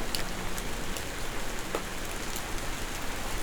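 A light rain shower patters steadily, a soft continuous hiss of drops with occasional distinct taps, at a gentle, even level throughout with no voices.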